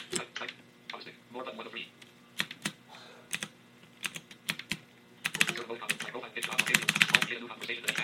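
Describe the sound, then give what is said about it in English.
The volume knob of a mechanical keyboard clicks through its notches: crisp detents, spaced out and irregular at first, then rattling off in quick dense runs as it is spun faster. “So now, so I'll let you hear volume knob. See, as you can hear, there's a notches.”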